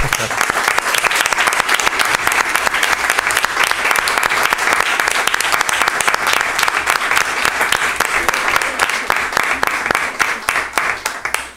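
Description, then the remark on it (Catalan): Sustained applause from an audience at a council meeting for the representatives of the Consell d'Infants (children's council), a dense, steady patter of many hands clapping for about eleven seconds before it begins to fade, with no speech over it. “Crec que un aplaudiment estaria molt bé.”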